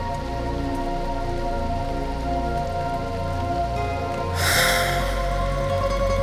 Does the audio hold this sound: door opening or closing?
no